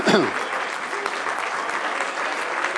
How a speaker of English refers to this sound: I'm here to worship God. I'm here to sing. I'm here to clap my hands.